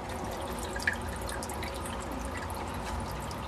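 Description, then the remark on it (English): Water from the Manatee Mineral Spring runs steadily underneath a big cement cap in a muffled, continuous trickle, with faint dripping plinks scattered over a low, even wash of sound; no one speaks. “this is all the more encouragement for opening up the spring again, which is currently just got a big cement cap on top of it, though you can still hear the water running underneath.”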